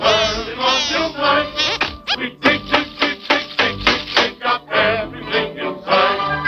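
A miner's tiny hammer taps in a quick, steady series of bright clinks against huge gleaming diamonds in a mine, fairly loud, with tuneful music continuing underneath.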